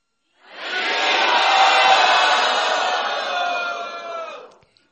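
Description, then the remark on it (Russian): A large crowd at a retreat, hands raised, shouts "Hari Bol" together in one long, loud, sustained roar of many voices that swells quickly, holds for about four seconds, then fades out. “Пожалуйста, поднимите руки и крикните «Хари Бол».”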